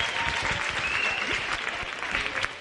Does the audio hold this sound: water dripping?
no